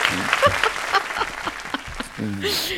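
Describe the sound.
An audience claps in a steady, dense wash of applause that holds at an even level throughout, with voices speaking and laughing briefly over it at the start and end.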